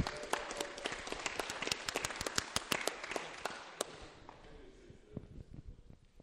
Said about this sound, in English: Really, thank you very much, UK2. They're absolutely great to us. So a round of applause for UK2.